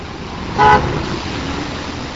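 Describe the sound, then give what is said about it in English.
A single short, friendly car horn toot sounds briefly over a low, steady hum of street traffic along a city's main street, then fades back into the background rumble. “And cars give an occasional friendly honk.”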